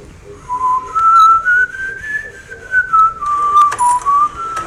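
Someone whistles a short, smooth tune, a single clear tone gliding up and then back down over a few seconds, with faint background noise and no talking.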